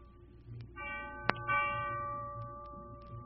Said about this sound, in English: Those bells are tolling not only for Hobart Selfridge, for the old-timer, for Jim Baines, for Lawson and Centers, and Skinny Tom McQueen, but also for 8 men killed at Cardinal, for Black Mountain, it's 9,